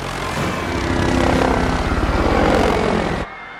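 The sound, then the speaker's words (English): A helicopter hovers over a crowded square, its rotor blades thumping in a steady rapid chop over a loud engine roar, then the sound cuts off abruptly. “The helicopter hovers over the crowded square.”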